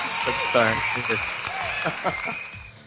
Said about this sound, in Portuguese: Confere, aí, cadê as palmas? Muito bom.